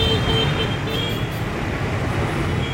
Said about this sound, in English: Scooters going by.